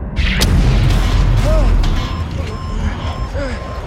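A dull, heavy thud of an explosion in mid-air striking Gary Powers' U-2 plane over Soviet territory near Sverdlovsk, followed by a deep, sustained rumble that rolls on loudly for several seconds before easing slightly.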